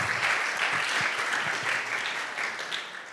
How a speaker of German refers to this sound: Come on, dafür können wir Gott mal einen riesen Applaus geben. Wie gut ist das?